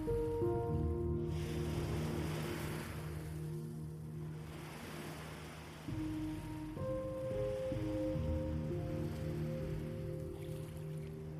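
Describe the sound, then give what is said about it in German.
Ocean waves wash ashore in slow, steady swells, each surge rising and fading every few seconds, blended with a soft sustained musical drone. No one speaks. “Jede Welle schenkt dir ein Gefühl von Freiheit und Lebendigkeit.”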